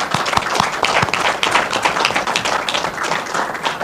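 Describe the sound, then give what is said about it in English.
A crowd applauds steadily for about four seconds in recognition of Northwest College becoming Northwest University, a dense, crackling wash of many hands clapping at once, fairly loud and even throughout with no voices over it. “In fact, it was during his tenure that Northwest College became Northwest University, and I think that deserves some applause.”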